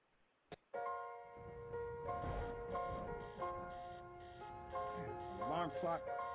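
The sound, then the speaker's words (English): A click, then an alarm clock rings loud with a steady electronic tone for about six seconds. Rustling sounds sit underneath, and the tone wavers briefly near the end. “I hate alarm clock.”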